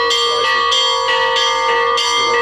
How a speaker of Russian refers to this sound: Колокольным звоном встречал правящего архиерея приход Михаила Архангельской церкви села Чаадаевка Городищенского района.